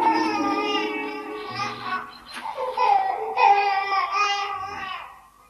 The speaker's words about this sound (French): Viens, petit homme, viens, ne pleure pas, petit homme.